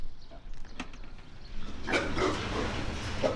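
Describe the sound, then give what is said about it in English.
Pigs grunt and squeal inside low-roofed hog barns on a farm near Gowrie in central Iowa, several animals overlapping in irregular bursts over a steady low rumble, growing busier partway through. “walks toward a row of low-roofed hog barns.”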